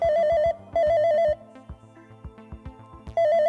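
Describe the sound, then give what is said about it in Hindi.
A phone rings in bright, warbling bursts after a call is placed to a mobile, two close together and then a third after a pause, with a soft rhythmic musical backing underneath. “चल अपने भाई को मोबाइल पे फोन लगा डाल।”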